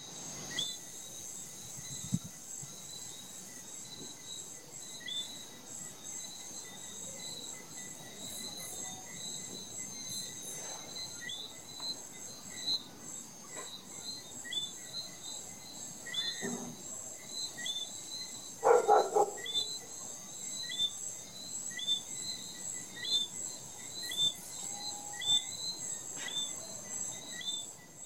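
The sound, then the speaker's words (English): A night chorus of frogs in Martinique, recorded on an HTC One X smartphone, with many high, whistling chirps repeating and overlapping against a steady shrill drone, fairly even in loudness throughout, with no voices. “let's listen to these Martinique frogs.”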